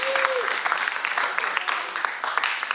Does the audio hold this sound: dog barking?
no